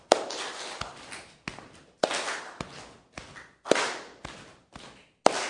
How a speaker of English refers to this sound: And by the way, I encourage you to clap palm to palm. That will save your hands. It'll save your hands.